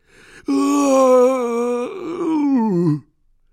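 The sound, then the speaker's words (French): A voice, read as the character Hagrid, lets out a long, loud howl like a wounded dog, holding a steady pitch before breaking into a wavering, downward-sliding wail that ends abruptly, with no words. “Puis, soudain, Hagrid laissa échapper un long hurlement de chien blessé.”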